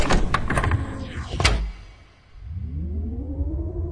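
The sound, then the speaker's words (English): A sliding door glides gently shut with a soft whoosh and a muffled thud behind Leia as she marches out of the meeting room. After a short pause, a rising electronic hum swells in, with no one speaking. “If only she could slam the door, but it wishes gently shut behind her.”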